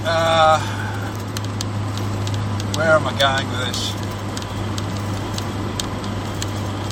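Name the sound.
small car driving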